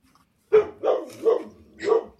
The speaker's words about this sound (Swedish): på en lite trassligare ledning och med en skällande hund i bakgrunden. Ja, det är trevligt med lite hundar i programmet.